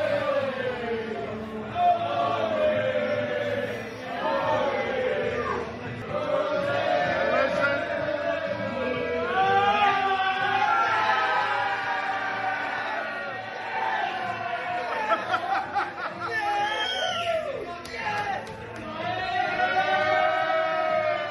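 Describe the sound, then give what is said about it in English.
A packed crowd in a pub's front bar, beers in hand, watching on TV as golfer Cam Smith sinks his winning putt to win the Australian PGA Championship, erupts into loud, sustained cheering and shouting, many voices yelling together in excited bursts that swell and surge throughout. “Cam Smith basically lobbed up in the front bar, packed, everybody beer in hand, and they are watching, and you'll hear the moment, they're watching his winning putt.”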